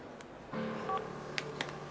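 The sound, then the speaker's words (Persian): A brief electronic beep from a mobile phone keypad sounds once inside court (justice department) premises, fairly quiet, over a low hum with a few soft clicks and taps around it. “آوردن گوشی به اماکن دادگستری ممنوعه.”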